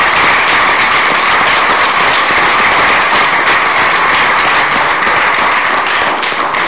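A crowd applauds steadily for the team that provided the savory buffet, a dense, loud wash of overlapping claps that holds at full strength for several seconds before easing slightly at the end. No one speaks.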